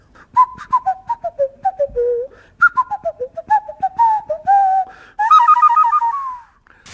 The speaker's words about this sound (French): Ensuite, vous avez du sifflet de nez de la forêt équatoriale du Brésil. Alors, on souffle avec le nez et on fait ce qu'on veut, quoi.